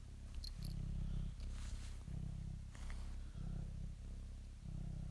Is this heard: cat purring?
yes